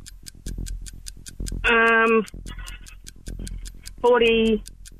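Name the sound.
quiz countdown clock ticking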